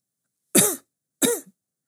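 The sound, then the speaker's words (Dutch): Two small, polite coughs in a row, each brief with a slightly voiced, throaty edge, alone in an otherwise quiet setting. “Opeens klinkt er een bescheiden kuchje.”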